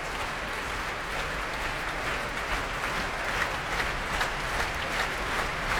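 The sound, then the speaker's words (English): The Proms audience in the hall applauds steadily, with dense, continuous clapping and a low rumble of feet stamping beneath it. The roar holds at an even, fairly loud level throughout, with no voices. “And a bit more stamping going on in the hall here.”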